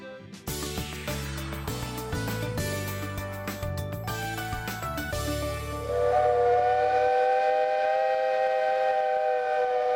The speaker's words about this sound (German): Ein bisschen muss er immer noch lächeln, wenn er die dampfbetriebene Pfeife, das Typhoon der St. Georg, betätigt.